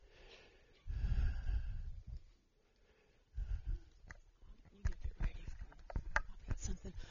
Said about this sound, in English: I'm sorry I had to cough. One of the grandkids shared a little love with me, I guess, this week, and I've got this cough going on.